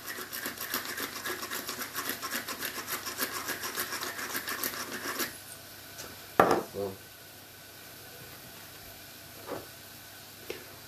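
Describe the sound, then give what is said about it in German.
Rapid rhythmic grinding of a pepper mill, grinding fresh pepper onto minced meat in a bowl to season it, runs for about five seconds, then stops; a sharp clatter and a few faint knocks follow. “Solange sich das da hinten schon mal anschmort, nehmen wir uns unser Hack in der Schale und würzen das Ganze. Ganz basic mit ein bisschen Salz, bisschen frischen Pfeffer.”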